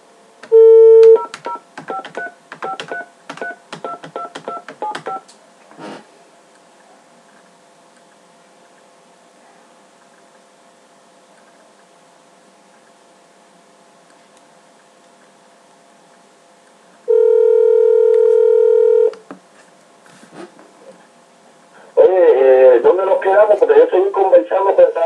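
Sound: dropped phone call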